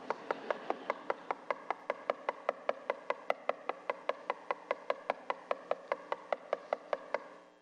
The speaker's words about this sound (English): Because the knocking was incessant. Scripture says impudent, or other versions say persistent.